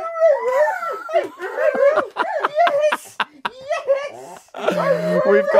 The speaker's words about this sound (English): Just so you know, that was a dog.